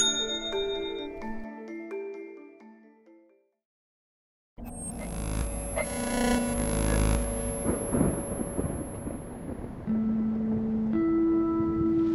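thunderstorm

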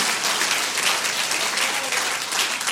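audience clapping

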